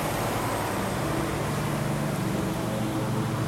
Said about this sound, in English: And now the garbage truck is turning towards me. Jesus Christ, all this fucking noise. Go away.